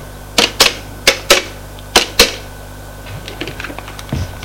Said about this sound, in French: Le directeur prend son téléphone et fait un numéro.